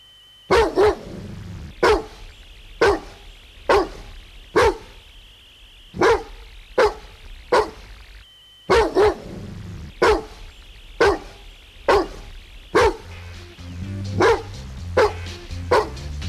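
dog barking sound effect

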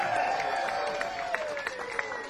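audience applause and cheering

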